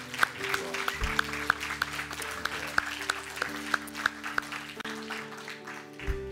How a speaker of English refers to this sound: Now we can really applaud. Shall we do that?